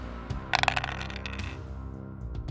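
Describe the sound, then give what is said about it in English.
Three dice, rolled for an instinct plus empathy check, rattle and clatter in a quick burst of sharp clicks lasting under a second, over a steady low background drone with no one speaking. “I'm going to roll instinct plus empathy to determine if Sudo can pierce the void of her mind, but the difficulty gets bumped up due to her mimetic conditioning.”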